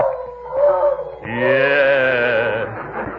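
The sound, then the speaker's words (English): A dog howls: a shorter wavering howl, then a long, loud, drawn-out one that slowly trails off. No one speaks. “Lonesome? Not if he keeps howling like that, he won't.”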